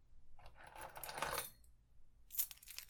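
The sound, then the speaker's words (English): A bunch of keys jingles in an office in two bright metallic bursts, a longer shake followed after a short pause by another quick rattle, with no one talking. “You want these keys? You want to leave?”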